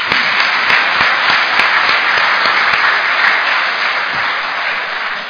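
A large church audience applauds five young men, steady dense overlapping clapping with a few sharper claps, holding strong for about five seconds before easing slightly toward the end. No one speaks.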